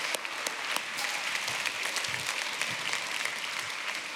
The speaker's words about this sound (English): Kids in the room, can we give them a quick round of applause?